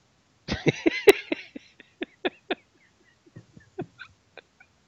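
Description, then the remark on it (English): A dog belonging to a speaker's mother whimpers, starting with a quick cluster of whiny cries, then a series of short, spaced-out whimpers that grow fainter and trail off, with no talking. “Minding the dog at the moment's paying the hole.”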